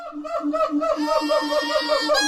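A rapid run of nasal, trumpet-like honking calls from three animals interacting, overlapping, with loud rhythmic pulses and a higher, brassier note rising near the end.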